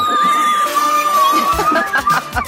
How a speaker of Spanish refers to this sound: Me encanta cuando se oye de fondo a toda la gente gritando. Aquí bueno, hasta se ha cortado.